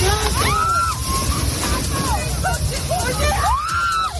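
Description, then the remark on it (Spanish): Strong gusts of wind recorded on a Saturday in the province of Córdoba, Spain, during storm Mónica, roar continuously, a loud, dense rush of noise broken by rising and falling whistling tones, with indistinct voices faintly mixed underneath. “Escuchas las fuertes rachas de viento que se han registrado este sábado en la provincia de Córdoba.”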